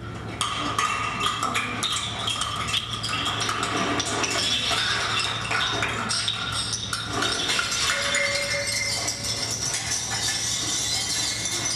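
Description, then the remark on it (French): Small metal beer bottle caps, swept down a staircase to mimic tumbling objects, clatter in a dense, continuous cascade of bright clinks and rattles, fairly loud, with no voices. “des petites capsules de bière en métal, etc., qu'on a balayées dans l'escalier pour donner l'impression d'objets qui dégringolent”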